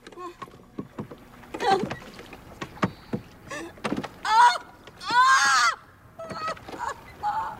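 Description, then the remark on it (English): A woman rows a boat on a river; oars dip and splash through the water in uneven strokes, with wooden knocks and a couple of loud creaking, squealing sounds from the rowboat's oarlocks. “rows a boat through the river, its oars cutting into the water, and sending cascades of ripples through it.”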